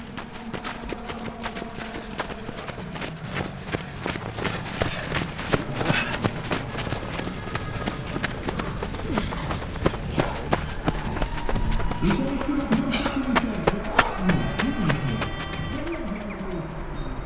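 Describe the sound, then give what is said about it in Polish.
A steady, dense patter of many runners' footsteps slapping the ground throughout during the Bieg Pamięci Sybiru (Siberia memorial run), with birds calling and faint voices in the background toward the end. “Biegu pamięci Sybiru biegnę dla dwojga Sybiraków, dla mojej babci Aleksandry Nowickiej i dla mojego pradziadka.”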